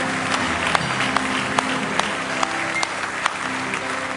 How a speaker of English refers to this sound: Give him one more hand clap of praise if you love him. All your heart.